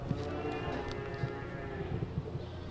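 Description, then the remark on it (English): Outdoor ambience at a Jersey dairy farm on a sunny afternoon, with resident cows and goats and visitors come to cut Christmas trees: a steady rustling background broken by soft, irregular hoof-like thuds and low animal sounds, moderately quiet. “Hoping for better luck with a more rural crowd, I head to Young's Jersey Dairy on a sunny afternoon.”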